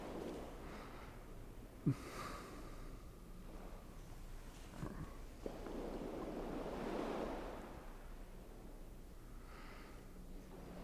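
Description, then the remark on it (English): Ocean waves wash onto a beach in a steady roar, with one larger wave swelling and breaking midway. Light wind and a couple of brief bumps sit on top, and nobody speaks. “Especially with the beach.”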